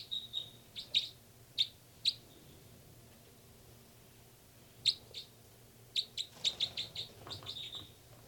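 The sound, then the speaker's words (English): Sharp, high-pitched calls from two birds, numbered 298 and 318, ring out in scattered bursts. Several single chirps come early on, then a quicker run of calls near the end, over a low steady background hum. “So recording now, birds 298 and 318.”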